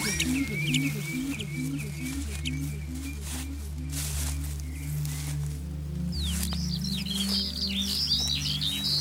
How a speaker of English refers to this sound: This noisy creature, it's a common redshank. He is alerting others with his loud call. In Dutch, we call it tureluur.